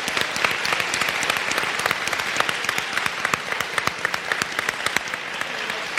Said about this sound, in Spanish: Es más, voy a rogar que por favor aplauda bien fuerte todo aquel que esté de acuerdo conmigo en pedir para allá, de momento, una miniserie protagonizada por Robotnik.